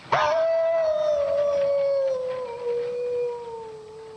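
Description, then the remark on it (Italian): A lone wolf howls in one long, sustained note that starts abruptly and slowly glides downward in pitch, fairly loud and clear with no voices around it. “Lupo ulula.”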